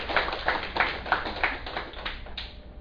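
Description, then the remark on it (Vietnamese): A short burst of applause from an audience welcoming a dharma talk titled Time, Money and Happiness on 24 May 2008, with hands clapping in a quick, fairly steady rhythm. It sounds moderately loud and somewhat muffled, fading slightly toward the end. “Xin quý vị vỗ trong tràng pháo tay.”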